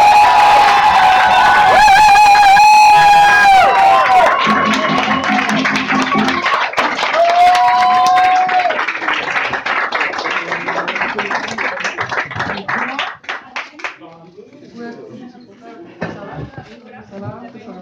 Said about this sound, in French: Lorsque quelqu'un fait une goguette pour la première fois, on l'applaudit deux fois plus fort.